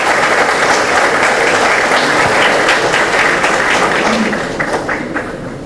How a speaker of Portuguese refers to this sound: Uma salva de palmas.